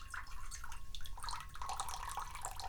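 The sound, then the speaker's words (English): Water pours steadily from a just-uncapped jug into a cat's water bowl, a continuous splashing and gurgling stream lasting a few seconds, fairly quiet, with no one talking. “We uncap a water jug and we pour some water.”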